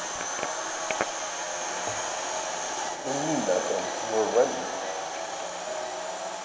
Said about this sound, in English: That's me running, yeah. And unfortunately, you got the drone going, so you got a lot of background noise.